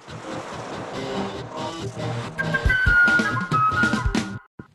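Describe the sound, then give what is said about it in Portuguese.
A short segment-transition jingle plays alone, with layered tones and a bright rising whistle-like melody over rhythmic low beats, building loudly before cutting off abruptly near the end. “agora, na hora que tava rodando a vinheta, ela falou assim, qual é o tema desse bloco mesmo?”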